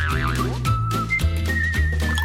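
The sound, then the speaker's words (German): A high electronic tone from a digital key finder in a handbag warbles briefly, then sounds in a few sustained, slightly shifting loud beeps over a low humming backdrop with no one speaking. “Was piepst denn da dauernd? Ist das deine Handtasche?”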